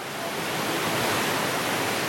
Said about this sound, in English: I've come to northeast Estonia now, and what you can hear is the wind-pummeled River Narva. It's basically a dividing line with Russia.